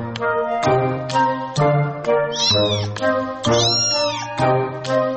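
A cat meows repeatedly and loudly up close, a series of drawn-out, wavering calls in steady succession, with no talking over them.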